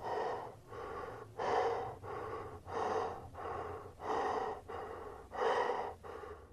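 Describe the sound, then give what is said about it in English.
Heavy, excited breathing of a man in a mask in a yard outside a house: about ten quick, loud breaths in a steady rhythm, each a rough, airy rasp with short gaps between, heard alone with no talking. “Before I can look back into my yard to check if the man in the mask is someone I know, I hear him breathing again. It's different, though. He's excited.”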